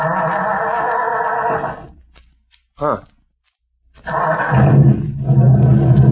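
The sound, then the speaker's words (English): A car engine, just overhauled at an all-night garage with rebored cylinders, new rings, new spark plugs and a new fan belt, rumbles steadily, then cuts out into silence broken by a brief spoken sound, before the motor starts again and runs on with a loud, deep, even throb. “Now, let me hear that motor.”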